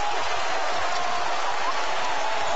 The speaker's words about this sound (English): Oh, my goodness. Up high. Throws it down on the defender. And this place erupts.